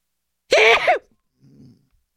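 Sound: sneeze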